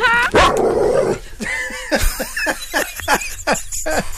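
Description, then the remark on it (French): A dog barks repeatedly and loudly, a string of sharp yapping barks at a steady, insistent pace with a brief whine in between. “Promeneuse qui avait un chien.”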